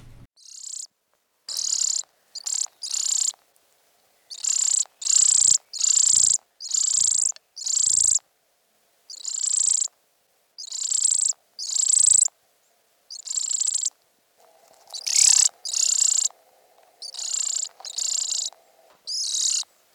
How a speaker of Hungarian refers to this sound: Most egy tokosodó zöldike fióka eleségkérő hangját halljuk, ami vibráló hangok sorozatából áll.